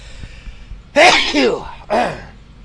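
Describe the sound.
A loud human sneeze bursts out after a quiet moment, voiced and explosive, followed almost immediately by a second, shorter sneezing burst.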